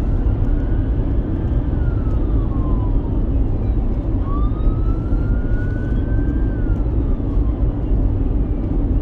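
A wailing siren slowly rises and falls in pitch, two long sweeps, riding over a loud, steady roar of traffic-like rumble with no talking.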